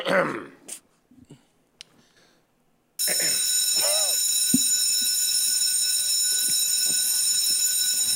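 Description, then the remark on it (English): Brief murmurs of voices, then a loud bell starts ringing abruptly and keeps going without a break, a steady shrill metallic clang that continues to the end with a voice briefly heard over it. “Can you show me the bell, please?”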